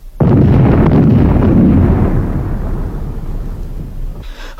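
Artillery shells, fired on command in a bracket of four shells, explode with a sudden heavy blast that swells into a loud, continuous rolling rumble, slowly fading over several seconds. No voices are heard.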